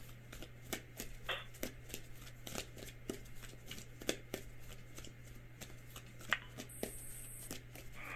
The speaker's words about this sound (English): please say, stop shuffling, Tonson, whenever your heart says stop